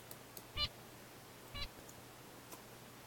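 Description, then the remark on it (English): Two brief bird song syllables, one after the other about a second apart, the first sung while the bird had juice and the second while it had alcohol, each a short bright burst with a low thump beneath, faint against a quiet hissy background. “Listen carefully now as I play these two syllables. First the syllable sung while the bird had juice, followed by the syllable sung while the bird had alcohol.”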